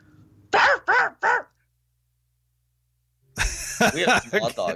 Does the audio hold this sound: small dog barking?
yes